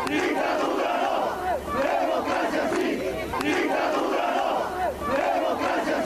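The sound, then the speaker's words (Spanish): A large crowd of protesters in Bolivia, on strike against the Supreme Electoral Tribunal's approval of Evo Morales's run for a fourth term, chants slogans in unison, voices rising and falling in a steady repeating rhythm, loud and continuous for the whole stretch with brief dips between phrases. “Al grito de...”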